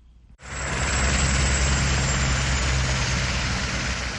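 police helicopter hovering overhead

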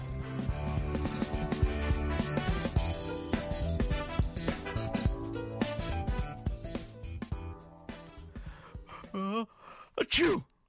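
sneeze

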